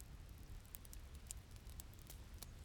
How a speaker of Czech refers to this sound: Krásně prší.